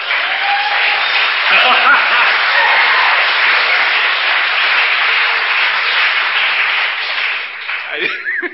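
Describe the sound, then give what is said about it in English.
An audience breaks into loud, sustained applause for a speaker marking nearly 5,000 days sober, a dense wash of clapping that holds steady for several seconds before thinning slightly at the end. “I got a lucky applause.”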